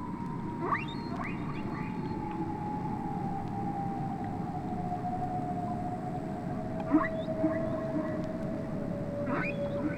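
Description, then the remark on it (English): A whale call from Henry the Hudson Whale: a long, steady moaning tone that slowly sinks in pitch, with brief rising squeaks and chirps over a constant low rumbling background. No one speaks. “Now we're joined by our friend Henry the Hudson Whale.”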